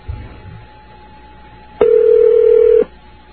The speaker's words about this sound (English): Two ringy dingies. Are they just ringing the closet now? Mm-hmm. We'll show them. We'll just have the phone ring and ring and ring.